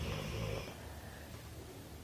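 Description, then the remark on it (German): A dog lying relaxed snores softly, a single drawn-out raspy breath fading after about a second, followed by quiet low rumbling. No one speaks. “Ja, und das, was du im Hintergrund hörst, ist nicht das Knurren vom Wolf, sondern das Schnarchen von unserem Hund, die schon ganz entspannt da liegt, weil sie weiß, da geht keine Gefahr aus.”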